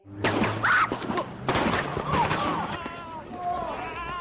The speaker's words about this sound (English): Okay, there was just gunfire, and now cops have guns drawn. Shots fired in the city of Ferguson early this morning, posted to YouTube, hitting two police officers less than a day after embattled police chief Thomas Jackson agreed to resign.